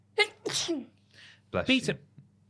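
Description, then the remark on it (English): Two sharp sneezes about a second apart, each a voiced intake followed by a loud explosive burst, over a low steady background hum. “Bless you, ….”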